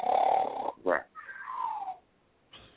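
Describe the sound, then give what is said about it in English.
A voice imitates the snoring breath of a person with sleep apnea: a rough, rattling inhale followed by a short burst and a wavering, tonal exhale, then a brief breathy sound after a pause. “If you have a partner or somebody who sleeps and they snore,”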